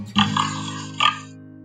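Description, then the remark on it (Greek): A voice imitates a piglet oinking: two short, nasal grunting oinks in quick succession, fairly loud, with no other sounds around them. “Το γουρουνάκι είπε.”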